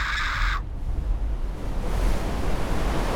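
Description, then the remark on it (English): A woman's high scream cuts off abruptly as a two-foot wall of water crashes in out of the darkness with surprising force, becoming a loud, steady rushing roar that fills the next few seconds. “A 2-foot wall of water appeared out of the blackness and struck with surprising force.”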